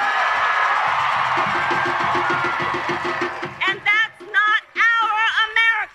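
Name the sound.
crowd cheering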